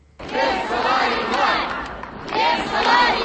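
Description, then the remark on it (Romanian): A large crowd of several thousand protesting teachers in the Republic of Moldova shouting and chanting together in the square by the Opera on a cold day, a loud, dense roar of many voices that swells, dips briefly, then rises again. “În mulțimea adunată în scoarul operei, în pofida frigului care s-a lăsat tocmai astăzi,”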